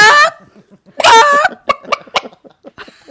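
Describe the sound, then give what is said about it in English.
A person imitates a chicken, letting out two loud, drawn-out squawks followed by a quick run of short, choppy clucks. “Do your chicken.”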